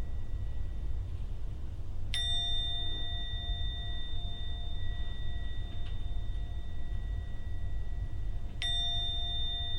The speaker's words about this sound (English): Now I'm going to ring the gong 3 times. Please listen to the sound of the gong. And only when the last ringing starts to vanish, only then open your eyes at the 3rd ringing of the gong.